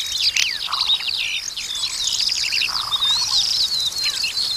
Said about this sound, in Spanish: que es una zona de pastizales ahí al sureste, un sitio maravilloso, un auténtico espacio intacto, donde lo que predomina son la maraña de voces de los aláudidos, las alondras, las calandrias, las cogujadas, las aves de los espacios abiertos.